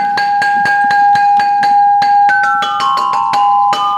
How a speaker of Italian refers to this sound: Queste sono campanine di vetro.